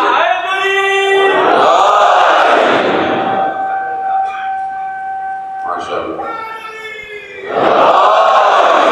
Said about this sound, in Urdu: بھائی نعرے کون مارے گا؟ یا تو میں ایسی مجلس نہیں بنوائی سے آپ نعرہ مارے ہیں یا آپ کو گھبرا رہے ہیں کہ بھائی میں کچھ نہیں کہتا, آپ سب نعرے مار لو.